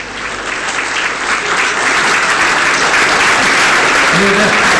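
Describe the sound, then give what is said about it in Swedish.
Sustained applause from an audience, a dense steady patter of many hands clapping that fills the whole stretch, fairly loud, with faint voices murmuring beneath it. “Hörde du vilken varm applåd?”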